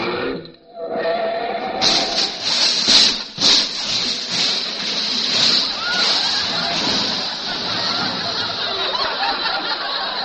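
A car plunges into water with a big splash, followed by a loud, steady rush of churning, sloshing water that lasts for several seconds.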